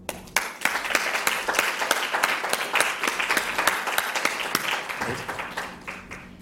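An audience applauds a speaker after a talk, steadily for several seconds, a dense crackle of many hands clapping at once, fairly loud and even, tapering slightly near the end.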